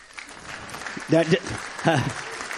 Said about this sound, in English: Do remember, I'm on a time limit, so you have to let... I'm not like Obama. I don't need your applause, really.